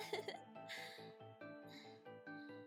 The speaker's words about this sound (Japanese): やっぱりゲップするの気持ちいい。